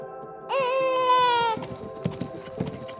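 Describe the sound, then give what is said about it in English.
A recording of a newborn human baby crying lets out one loud, wavering wail lasting about a second, played through a speaker outdoors in a playback experiment with deer mothers, followed by quieter rustling and shuffling noises as a deer mother approaches. “And there she goes again, this time for a human baby.”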